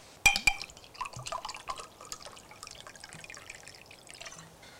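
Two quick glassy clinks, then a drink splashing and trickling into a glass for a few seconds, soft, with no voices.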